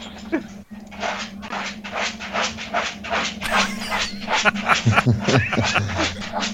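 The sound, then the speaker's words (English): A dog scratches and digs frantically at a basement floor, a fast run of rasping strokes with a steady low hum underneath. The digging is fairly loud and continuous throughout. “Apparently he's trying to dig a hole in the basement floor.”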